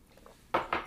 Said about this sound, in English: Listen to him, please, as I drink a little water to clear my throat, listen to what I'm about to say.